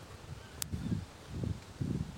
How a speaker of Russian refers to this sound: сейчас моя партия, я звучу своим скрипом, шумом опадающей листвы под аккомпанемент этого ветра.